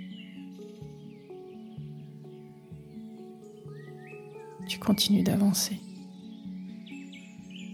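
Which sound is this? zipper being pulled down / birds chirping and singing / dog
birds chirping and singing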